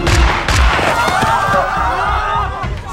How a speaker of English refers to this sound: Did you hear that? Was that gunfire?